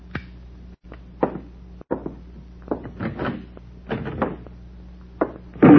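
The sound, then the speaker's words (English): A door is pushed shut amid a series of clattering knocks and scrapes, ending in a louder thud right at the finish. “Back inside. Pick that door closed.”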